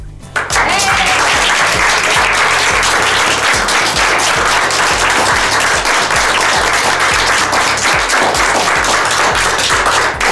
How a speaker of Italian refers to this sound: Hai strappato un applauso più vero e più duraturo di quelli che si sentono a fine canzone a Sanremo.